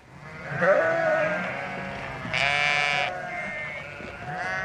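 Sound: sheep bleating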